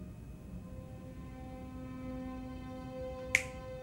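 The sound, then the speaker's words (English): A single sharp finger snap, an advocate clicking his fingers, cracks out near the end, crisp and bright, over a steady low hum with faint tonal lines and no voices. “The advocate clicks his fingers and the Q waves his arms, summoning his powers.”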